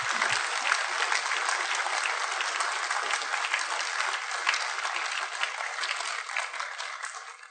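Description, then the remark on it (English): Sustained applause from a large audience of men for a panel, a dense steady wash of clapping that holds at full strength for several seconds before gradually thinning out at the end. “Gentlemen, let's give Jim and the panel a big round of applause for coming.”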